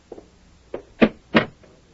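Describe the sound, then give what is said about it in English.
An office door is pulled shut, a few clattering handle and latch knocks building to two firmer thuds as it closes, then a faint final click. No one speaks. “And close the door, Sam.”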